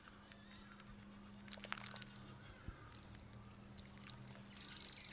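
A thin stream of liquid trickles and patters quietly, like urination, growing busier midway with scattered drips and splashes over a faint steady low hum; no one speaks.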